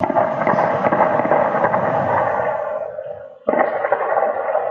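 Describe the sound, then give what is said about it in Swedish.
Rapid bursts of sharp gunshots crack in quick succession outdoors at midnight on a Wednesday in Kista, Sweden, filmed from a balcony, echoing off surroundings over a dense, noisy background, then briefly cut out before the racket resumes. “Klockan 12 en vanlig onsdag så är det alltså skottlossning på det här sättet.”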